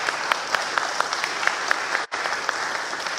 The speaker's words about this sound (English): Let me see you posture this clap too, right? We'll praise the Lord, we'll clap for him. Like this.